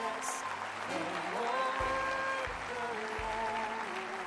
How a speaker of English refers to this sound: Look at the people coming. Come on, give them a better hand clap than that.